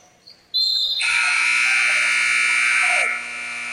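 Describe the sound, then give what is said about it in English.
A loud, harsh electronic buzzer marking the end of the first quarter of a North Posey Lady Vikings basketball game blares steadily for about two and a half seconds, preceded by a brief higher tone, then cuts off abruptly. “And that is the end of the quarter.”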